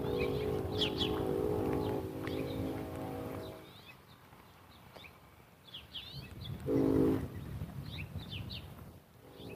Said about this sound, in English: There's a little breeze, but it's apparently blowing in the right direction because I could hear the train whistle. Now, the train whistle's 5 miles away. It's off to the east. It's actually further away.